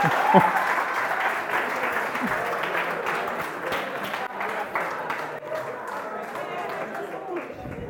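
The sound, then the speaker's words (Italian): A steady burst of audience applause for the performers, many hands clapping in a dense, continuous patter that holds at a fairly even loudness for several seconds before easing slightly toward the end. “Un applauso ai nostri artisti.”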